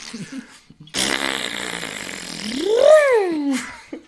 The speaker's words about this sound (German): So im Sechserabteil furzt du und fängst an zu lachen. Entschuldigung, ja, ich bin Flatulist.